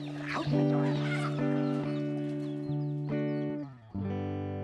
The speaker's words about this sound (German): das sind nur ein paar Gänse in meinem Garten, okay?